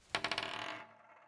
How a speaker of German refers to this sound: Da hätte ich eine Idee. Es klingt wirklich hübsch, wenn man eine Münze auf dem Tisch kreiseln lässt.